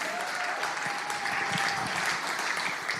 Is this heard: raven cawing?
no